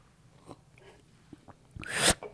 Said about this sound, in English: Was that a real slurp or a fake slurp?